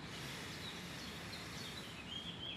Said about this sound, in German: Und dem Gesang der Vögel zu lauschen.